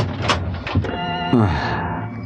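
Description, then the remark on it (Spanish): A car door shuts with a couple of dull, solid thunks as a man gets into the car and sets it moving, followed by a steady tonal hum that holds for the rest of the moment. “El hombre increíble sube al auto y lo pone en movimiento ante el desconcierto y asombro del hombre.”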